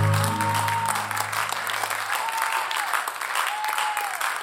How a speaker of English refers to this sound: Why don't you give God a hand clap of praise this morning?